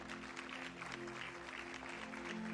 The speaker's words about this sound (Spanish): Alguien le da un aplauso al Señor por estas vidas que están aquí.